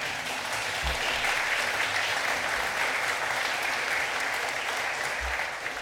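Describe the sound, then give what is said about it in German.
A crowd at a church service applauds steadily, dense overlapping clapping sustained at an even level for several seconds with no voices standing out. “Ich sage Dank an, bitte gerne Applaus.”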